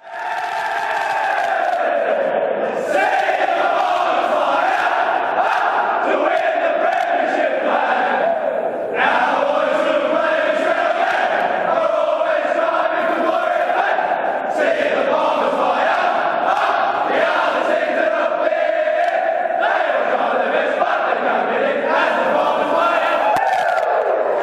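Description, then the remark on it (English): The Essendon Bombers football club theme song plays loudly and continuously for the whole stretch after an Anzac Day victory, its brassy melody rising and falling while a large crowd sings and cheers along. “Shall we hear the Bombers song for Essendon fans who gave them time to get to the car to be able to save a victory on Anzac Day?”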